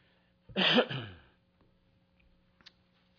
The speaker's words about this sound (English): Bless you.